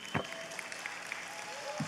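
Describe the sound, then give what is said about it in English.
Scattered audience applause rises as a performer is welcomed to the stage, a soft, steady wash of clapping, fairly faint, with a couple of brief low thumps and no voices over it. “Oh, you can clap, it's all right.”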